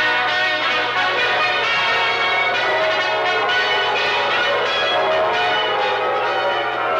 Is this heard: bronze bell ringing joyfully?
yes